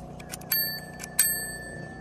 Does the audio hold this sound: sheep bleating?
no